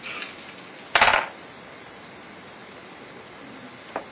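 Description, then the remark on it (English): Dice clatter onto a hard surface in a quick burst of rattling clicks, then settle; a single faint click follows a few seconds later over a low steady hiss, with no one talking. “Wow, that's a good roll.”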